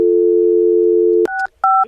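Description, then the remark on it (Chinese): A steady telephone dial tone hums for over a second, then cuts off as two short, distinct keypad beeps follow in quick succession while a colleague places a phone call, loud with no voices. “系啦，系唔好意思，头先我同事打紧电话，”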